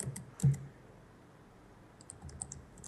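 Scattered computer keyboard clicks, a short burst near the start, then a lull before a quicker cluster of light taps toward the end, fairly quiet with no voices.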